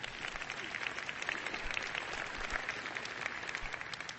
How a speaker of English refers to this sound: This one, did somebody start to applaud? Well, go ahead.